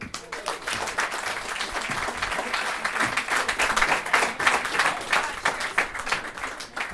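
crowd, audience applause

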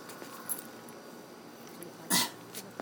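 animal, dog making noises

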